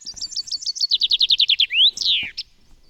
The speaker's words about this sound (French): Notons par ailleurs, concernant les chants, que pour être efficace, il doit être répété à de très très nombreuses reprises. Les bruants et les pinsons, par exemple, répètent la strophe plus de 1000 fois par jour.